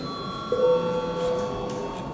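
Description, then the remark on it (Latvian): A parliamentary voting bell sounds once before a vote on candidates for the Central Election Commission. It is a steady, mid-pitched electronic tone lasting about a second, moderately loud over a faint hum, with no one speaking. “Lūdzu zvanu.”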